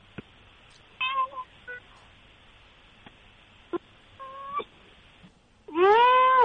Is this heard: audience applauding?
no